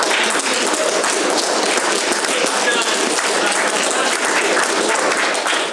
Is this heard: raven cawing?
no